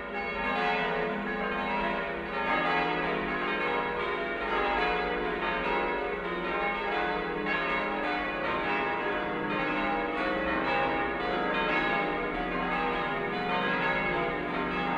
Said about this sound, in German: Aus den beiden mächtigen Türmen von St. Norbert beginnt der Klang von insgesamt 6 Glocken über die Dächer der umliegenden Häuser zu fluten. Eine davon hat als sogenannte Patenglocke aus Niederschlesien in Delbrück eine neue Heimat gefunden.